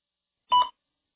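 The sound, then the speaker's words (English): A single short, clear electronic beep sounding once for about a fifth of a second before silence returns. The tone signals the start of a spoken answer in a speaking practice test. “Please begin speaking after the beep.”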